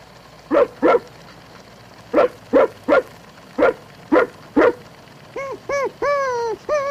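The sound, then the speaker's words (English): A man's voice imitates a dog, giving two quick barks, then a run of five sharp woofs, ending in a few rising whiny yelps and a drawn-out howl, loud with no other talk. “Yeah, that is, you did, but you really didn't, because the dog you thought you heard really was me.”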